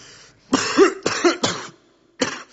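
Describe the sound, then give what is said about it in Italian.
A person coughs in a quick run of three harsh, throaty bursts, pauses briefly, then gives one more rough cough, with some throat clearing mixed in. “La mia malattia è la tosse che porto.”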